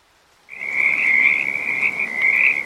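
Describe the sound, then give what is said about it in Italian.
A dense chorus of frogs croaking around a small car parked at night in a deserted abbey car park in the rain, a continuous, buzzing trill starting abruptly after a brief quiet moment and staying loud and steady over a soft background hiss. “una scomoda utilitaria parcheggiata di notte in un piazzale deserto sotto la pioggia, con le rane che gracidano intorno.”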